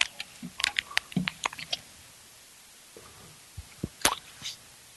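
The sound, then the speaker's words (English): Paper rustles and crinkles in a flurry of sharp crackles, goes quiet, then a few soft taps and one last brisk crinkle as the paper is pushed into place. “put this paper in here.”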